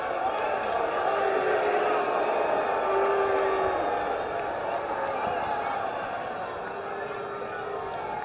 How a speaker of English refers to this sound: We get any fans at tonight's game? Yes, we do. They are loud. What a great crowd tonight.